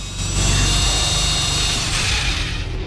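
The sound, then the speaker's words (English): A power drill runs continuously and loudly, a steady grinding whir with a low rumbling hum and no pauses, drilling a hole into a man's skull. “glances at the monitor which shows 80 over 30, then drills the first hole.”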